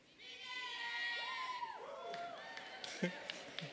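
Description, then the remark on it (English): A group of audience members from Phoenix yelling and whooping together, overlapping rising and falling high-pitched cries that swell loudly for a few seconds, ending with a brief sharp shout. “Why are you yelling like that?”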